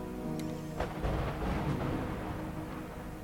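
A lightning strike in the video game Manamon 2: a sharp crack bursts out, then a dense, rolling thunder rumble fills the next few seconds over steady background music, with no one talking.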